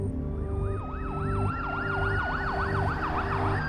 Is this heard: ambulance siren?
yes